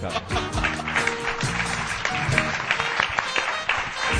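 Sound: audience applause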